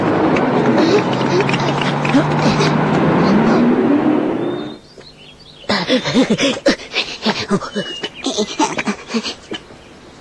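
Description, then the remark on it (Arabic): A car engine rumbles loudly, its pitch climbing as the car arrives and pulls up, then cuts off abruptly; after a brief hush, people begin talking. “ها ها هي السيارة قد جاءت.”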